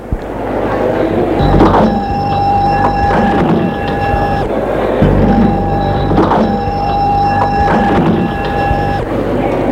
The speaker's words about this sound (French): La porte vient de s'ouvrir.